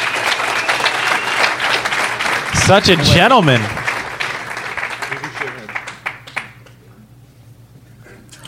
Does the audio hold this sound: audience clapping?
yes